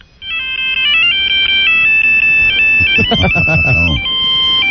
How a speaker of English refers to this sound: Hey, I got a little ringtone here for Rob.